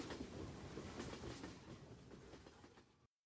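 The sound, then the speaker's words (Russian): Steady rumbling clatter of train wheels rolling over rails, with rhythmic clicks over a continuous low roar heard from inside a moving carriage, fairly loud and constant before cutting off abruptly. “Сказание о солдатских душах, записанное в поезде под стук колес”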